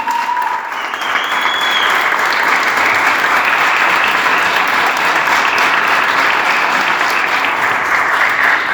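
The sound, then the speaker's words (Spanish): Sustained audience applause for Gastón Calabró, candidate for mayor of Zapala, a dense steady wash of many hands clapping at an even loudness for several seconds, with no voices standing out above it. “Fuerte ese aplauso para Gastón, que se sienta.”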